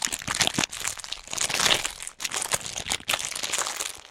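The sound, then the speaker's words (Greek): A crisp packet crinkles and rustles for several seconds, dense crackling bursts with brief pauses, no voices present. “Σήμερα έχουμε πατατάκια, μάγουλα, έχουμε ρεψίματα, σακούλα, έχουμε φουντούνια.”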